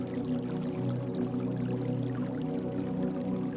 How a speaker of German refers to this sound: Noch in deinen Gedanken versunken, hörst du ein leises Plätschern. Da, du hast dein Ziel erreicht. Direkt vor deinen Augen siehst du Quellwasser aus der Erde sprudeln. Du hast den Platz gefunden, der heute offiziell als Ursprung der Isar gilt.